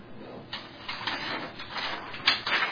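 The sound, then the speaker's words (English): Paper rustles and crinkles in a series of irregular, crisp bursts of moderate loudness, with a sharper crackle near the end and no voices. “I have this paper, man.”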